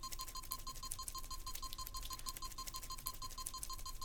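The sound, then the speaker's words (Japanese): A steady, monotone electronic beep repeats at an even, fairly quick pace, sounding mechanical against faint background hiss, with no voices. “手も足も地面につけさせられた四つん這い状態、自由のない状態で無機質なビープ音に管理されている。”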